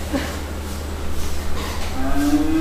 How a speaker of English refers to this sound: prepares Holstein and Jersey cows for their evening milking.